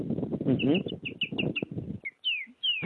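A bird calls with quick, repeated high chirps over a dense, murmuring lower background, then alone with a few clear descending whistles, moderately loud.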